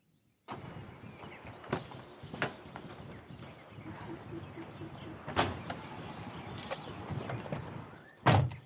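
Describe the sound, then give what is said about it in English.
A car door clicks open over a steady rumbling background, with a few thunks and rattles, then shuts with a loud slam right at the end. “If you don't open this car door, I'll go to the top of the road and get a taxi.”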